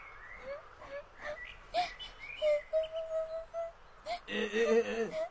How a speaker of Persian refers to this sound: در جواب کرم خاکی غمگین و ناراحت شروع کرد به گریه کردن.